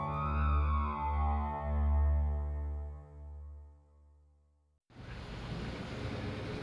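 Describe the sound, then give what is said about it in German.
A deep, sustained droning tone swells and fades for several seconds, then cuts abruptly to a steady hiss of drizzle and gusting wind at the harbor of Dutch Harbor, a port town on an Aleutian island of Alaska, in grey Bering Sea weather brought by a low from the northwest. No voices are heard. “Nieselregen und ein böiger Wind.”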